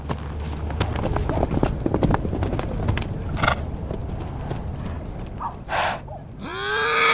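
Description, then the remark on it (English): Footsteps crunch steadily through dry grass as someone walks up a hill toward horses in a pasture at Horse Hill in Mill Valley, California, followed by a sharp snort-like breath and then a shrill, wavering horse whinny at the very end. “We're going to walk up the hill. The horses are probably over the top.”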